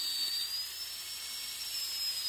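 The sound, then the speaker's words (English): A dental drill used during teeth cleaning whirs continuously in a thin, high-pitched whine over a bright hiss, steady and unbroken for a couple of seconds with no voices. “This sound is, you know, when you're getting your teeth cleaned, that drill, that dental drill, that's it.”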